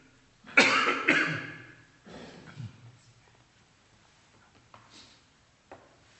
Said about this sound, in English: Me, just a bit of a coughing fit. That's all right.